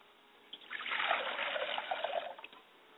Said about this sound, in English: As I pour a glass of water to my mother's spirit, I say, Ashe.